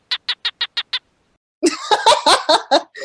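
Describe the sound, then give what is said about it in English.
A male animal's mating call, made with its head out of its den to attract females: six quick, evenly spaced barking chirps, a short pause, then a louder, denser burst of raspy chirping calls, clear with no talking. “and then the males will stick their little stubby heads out of their dens and bark, making these little chirping noises to seduce females and convince them to come to them to mate and lay her egg.”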